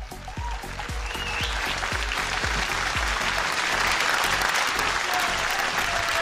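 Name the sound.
audience applause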